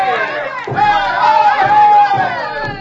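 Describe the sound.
A large crowd of students shouts and chants together, a loud, dense wall of overlapping voices, punctuated by regular low thumps every second or so.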